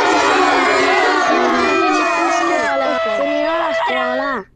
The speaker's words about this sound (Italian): No, ci sono i bimbi. Ah, già, è vero. Vai, sentiamo bimbi. I bimbi. Vai, vai, vai.